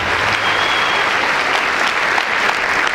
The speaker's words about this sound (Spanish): Un aplauso, Manuel, por tu historia